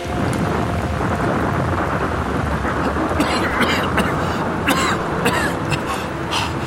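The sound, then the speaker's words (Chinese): Heavy rain pours down steadily, a dense hiss layered over a deep, continuous rumble of thunder, with occasional sharper splashes breaking through. “是雨滴吗？真的下雨了吗？我的头发衣服都淋湿了。”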